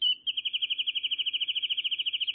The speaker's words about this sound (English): The dense cover of coastal chaparral supports many birds found nowhere else in the world. We're listening to the bouncing ball song of one such special bird, the wren-tit.